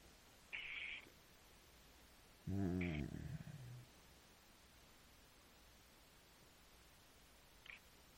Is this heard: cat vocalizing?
yes